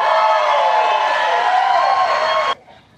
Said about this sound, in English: I mean, we can hear the cheers there. What was the energy for Pence?